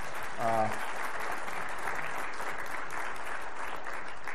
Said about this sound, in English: And let's just give him a round of applause.